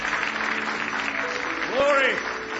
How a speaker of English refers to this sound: Now give Jesus Christ one more hand clap of praise.